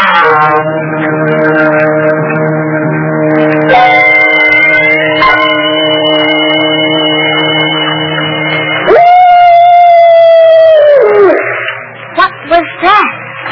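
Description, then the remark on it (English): A single long, wavering wolf howl rises and holds for a couple of seconds before trailing off, following a droning, bell-like ringing tone. A voice starts speaking as the howl fades. “merely the soul of a wolf passing by the purgatorium.”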